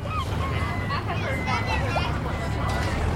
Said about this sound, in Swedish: I hamnen var det fullt av liv och rörelse. Här var det minsann ingen som hade tid med någon sovmorgon. Längs bryggorna låg fartyg från världens alla hörn.